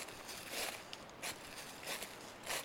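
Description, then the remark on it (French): Footsteps crunch through dry dead leaves in a forest at a steady walking pace, four or five rustling steps, fairly quiet, with no voices. “Sur les feuilles mortes, et je vous amène tout de suite à la rencontre des parapentistes.”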